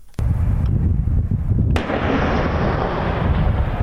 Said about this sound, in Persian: صدای توپخانه ارتش اسرائیل که جنوب لبنان را هدف قرار داد. منطقه هدف قرار گرفته موازی اطراف روستای الماشعب است.